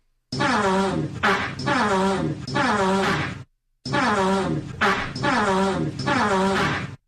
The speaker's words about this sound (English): Name this song that Antonio Brown is performing with his farts.